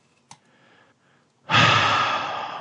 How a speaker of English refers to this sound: Would you pick a heavy breathing is never a good way to transition a new fucking story.